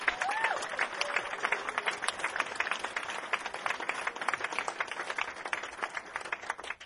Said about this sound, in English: These two guys on bass and drums, …, …. Round of applause.